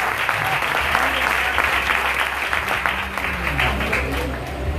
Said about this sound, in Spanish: Den el aplauso fuerte al Padre, al Hijo y al Espíritu.